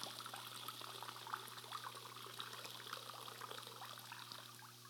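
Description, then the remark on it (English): Water trickles and dribbles steadily into a bucket as a sponge is squeezed out, a soft continuous splashing with small droplet patters, fairly quiet, with no talking. “Until we pull it out of the bucket and we empty it.”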